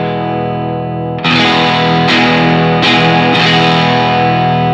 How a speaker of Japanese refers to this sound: 歪み成分とちょっとクリーンさがあって、結構粒のしっかり見えるクランチサウンドになると。